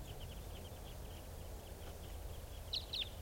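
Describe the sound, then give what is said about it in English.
A huge flock of about 15 type 2 birds flying around gives short, high chirping calls again and again, mostly faint, with a few louder calls near the end over a low rumbling background. “here's a flock of about 10 type 2s, and there's about 15 type 2s flying around in a huge flock here.”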